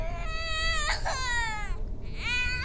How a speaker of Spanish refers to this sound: ¿Escuchas? Esa guagua otra vez, ¿no ve? Llora y llora.